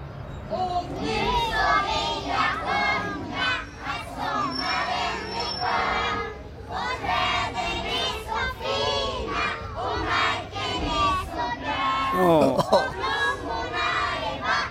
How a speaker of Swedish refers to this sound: Jag var faktiskt, jag hade en liten avslutning kan man säga, tidig avslutning på förskolan, och de sjunger ju, och det är ju för härligt. Här kommer det.